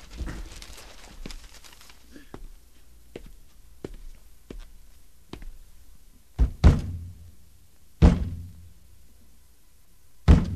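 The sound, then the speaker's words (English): Heavy hand thumps land on the side of the cabinet of an old, faltering radio set: a couple of hollow bangs, a pause, then two more single blows, after a stretch of faint tapping and clicking. “No, this time it's finished. Bang it again.”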